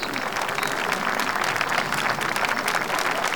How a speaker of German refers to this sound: 10 Minuten später durfte Tante Mathilda die einführenden Worte halten. Und Mr. Blazar ahlte sich in den schmeichelnden Formulierungen. Wie charmant! Bitte einen Applaus für Mathilda Jonas.